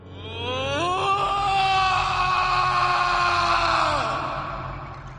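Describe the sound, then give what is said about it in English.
Batman, on his knees in the Batcave after destroying machinery in a fit of rage, lets out one long, loud scream of anger, a sustained raw cry lasting several seconds that swells up, holds, then drops in pitch as it fades, over a low rumbling background. “He destroys a lot of machinery in his Batcave in a fit of rage and just falls down on his knees and lets out a scream of anger like we have never actually heard before from Batman.”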